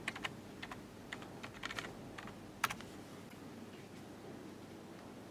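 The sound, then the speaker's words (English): Quick, irregular clicking of keys typed on a USB computer keyboard plugged into a small computer module, logging in after it has booted, fairly quiet, with short bursts and pauses over a faint steady background hiss. No one speaks. “So the module's booted, gonna log in.”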